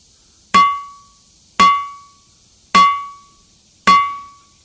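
A hammer strikes a boulder in the ringing rocks boulder field at Upper Black Eddy, Pennsylvania, four times at steady intervals, each blow giving a sharp clack and a clear, bell-like ringing tone that fades over about a second. No one speaks.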